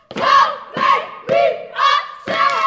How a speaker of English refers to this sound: The sound of the 8-member Kelly Miller step team screaming, stomping, and clapping echoes through the bright, clean hallways of the middle school. They're reviewing step combinations for their final competition this year